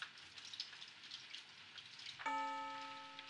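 Steady rain patters for a couple of seconds, then a school chime rings out loudly with one bright, sustained bell tone that slowly fades over the rain. No one speaks.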